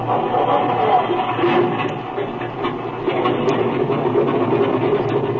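A propeller aircraft engine, already warmed up, runs steadily, a loud, continuous droning rumble with a faint rhythmic throb and no pauses or voices.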